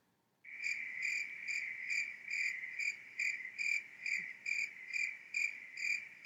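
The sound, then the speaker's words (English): Crickets chirping steadily and loudly, a continuous high trill pulsing in a regular rhythm after a brief moment of silence, with no voices present. “Yeah, it's a lot of crickets chirping.”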